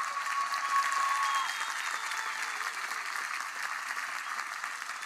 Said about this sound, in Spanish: Es muy difícil ser dirigente. Yo les pido por favor un aplauso y reconocimiento a sus dirigentes porque han hecho una tremenda pega.